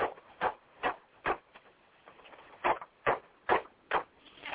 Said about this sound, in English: On the following day, at 221 Baker Street in London, Dr. John Watson is brewing tea, while Sherlock Holmes sits in his easy chair smoking his calabash. And a series of knocks on the door are heard.